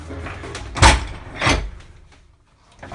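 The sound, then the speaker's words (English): The heavy 600-pound door of an underground corrugated-pipe culvert shelter, fitted with hydraulic lifts, swings shut as the shelter is locked, with two solid, booming thuds about half a second apart, each with a broad rumbling body, followed by a low, fading hum. “Okay, now the shelter's locked up.”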